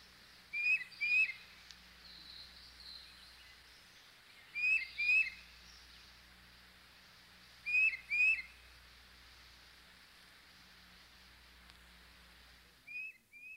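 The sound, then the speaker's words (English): A tufted titmouse sings clear, whistled two-note phrases in short bursts, repeated about every three to four seconds over a soft, steady background hum, with no voices present. “And here's the tufted titmouse.”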